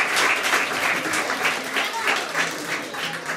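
Loud, sustained applause from an audience of children at a children's song performance, dense clapping with a slightly pulsing rhythm that fills the whole moment without any break.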